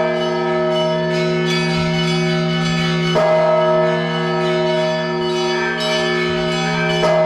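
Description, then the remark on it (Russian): Church bells of the Nizhnelomovsky Dormition (Uspensky) convent ring out continuously for its patronal feast, loud, their overlapping tones sustained and shimmering, with a fresh strike landing midway through. No voices are heard. “Колокольным звоном встречал православных свой престольный праздник Нижнеломовский Успенский женский монастырь.”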